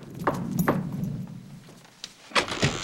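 impact, knocking on a door

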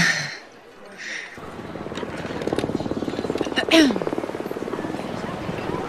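vehicle, helicopter flying nearby

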